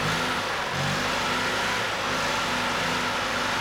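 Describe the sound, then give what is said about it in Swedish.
A vintage car engine revs loudly, a steady rumbling growl with harmonic tones that rise and fall slightly as the throttle is worked, with no talking. “Motorljudet är musik för bilentusiaster.”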